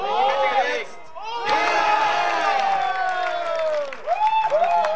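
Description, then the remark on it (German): A crowd at the German computer gaming championships cheers loudly and continuously as a player wins, many voices shouting and whooping in overlapping high-pitched yells, dipping briefly before surging again for the whole stretch. “Denn auch auf dem Computer gilt, wenn einer gewinnt, dann jubeln alle.”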